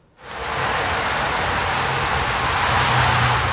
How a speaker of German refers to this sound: 70 bis 80 Dezibel A. So laut ist der Verkehr an einer großen Durchgangsstraße in der Stadt.